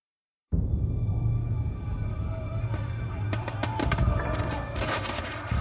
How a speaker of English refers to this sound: Cannon boomed. Mines, burrowed under the walls of Constantinople by the constant scratch, scratch, scratch of picks and shovels and then filled with gunpowder, exploded in cascades of dirt, stone, and rubble. Handguns crackled and bowstrings twanged.